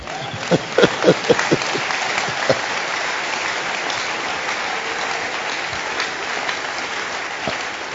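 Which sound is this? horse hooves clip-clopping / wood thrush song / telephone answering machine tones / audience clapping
audience clapping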